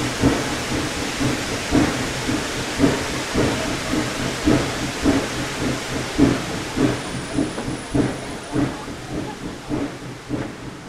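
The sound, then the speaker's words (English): Steam locomotive engine number 4 works hard up a grade toward the old logging camp at Whitaker Station, smoke blasting from its stack with a light rain of cinders, its exhaust in a steady, rapid chuff-chuff rhythm over a constant hiss of steam, loud, with no voices. “The smoke is blasting out of the stack, and there's a light rain of cinders.”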